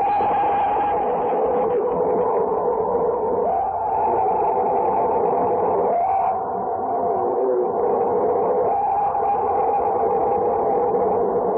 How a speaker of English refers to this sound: Yeah, just the first one, not a repeat. That first scream is said to be an authentic Bigfoot sound